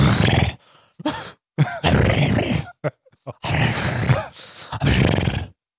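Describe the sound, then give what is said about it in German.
A person imitates a rhinoceros with loud, rough grunting and snorting bursts, roughly six of them separated by short pauses. “Okay, Nashorn. Wie macht Nashorn? Nashorn? Nashorn macht.”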